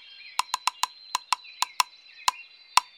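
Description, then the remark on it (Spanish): A woodpecker, Señor Pico, pecks at its tree trunk: about ten sharp, hollow knocks at uneven intervals, some in quick pairs, over a faint, steady, high-pitched whistling tone. “Ahí está señor Pico, el pájaro carpintero. ¡Toc, toc! Trabajando en su tronco.”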